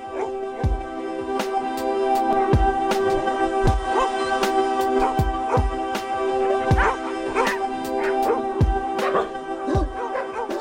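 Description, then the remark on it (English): A dog barks and yips repeatedly in quick, uneven bursts, fairly loud, with a steady tonal hum running underneath throughout. “dog and officially radio's best friend.”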